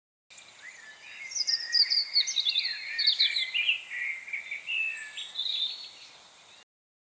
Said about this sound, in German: Aber Papa, jetzt höre ich schon wieder einen Vogel singen, aber der hat eine ganz andere Stimme als der Star in der Früh, oder? Schau, da oben am Baum kannst du diesen Vogel sogar sehen. Dieser Vogel heißt Amsel.